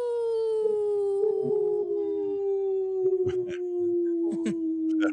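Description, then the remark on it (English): People on the radio show Native Roots Radio howl like wolves, one long steady howl slowly sliding downward in pitch over several seconds, loud, with other voices briefly joining in short yelps and howls. “That was the best howl.”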